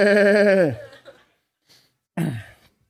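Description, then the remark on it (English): A person imitates a goat with a loud, strained bleat that slides downward, then after a pause gives a shorter, rougher bleating cry, alone. “And then it became this, like some goat was being shaved or something like that.”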